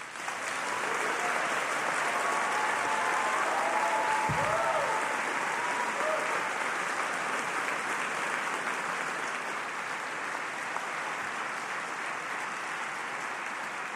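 A large crowd at a Cornell Law School graduation ceremony claps steadily and loudly for the graduates' parents, family and loved ones, a dense wash of applause that holds its level for the whole stretch with a few faint cheers mixed in near the start.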